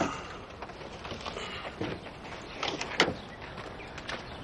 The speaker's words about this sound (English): The driver unbuckles his seatbelt and gets out of the truck.